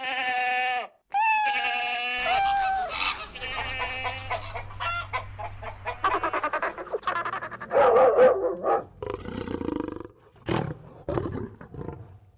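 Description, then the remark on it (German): A voice imitates a lion, letting out a series of loud roars and growls of varying pitch. The calls come in rapid bursts with short breaks between them, and no one speaks. “Das Löwenbrüllen klang nach Braun oder sowas.”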